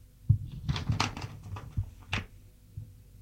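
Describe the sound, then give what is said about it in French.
A desk drawer slides open with a few dull wooden thumps and short scraping rustles as a chequebook is taken out, followed by quieter handling sounds, with no one speaking. “Ouvre un tiroir pour prendre un chéquier.”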